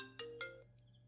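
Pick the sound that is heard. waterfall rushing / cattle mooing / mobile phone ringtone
mobile phone ringtone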